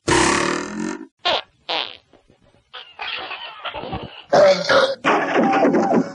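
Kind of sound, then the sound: human body sound, long drawn-out fart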